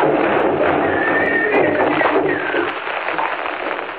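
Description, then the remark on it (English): Horses of two horsemen riding fast from the south gallop in a dense, steady rush of hoofbeats while high, wavering whinnies rise over the clatter, the whole din loud and continuous before easing slightly toward the end. “We see two horsemen following fast, coming up from the south.”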